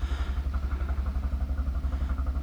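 A fancier motorboat's engine chugs steadily with a low, rhythmic throb as the boat comes by, continuous throughout, with no voices.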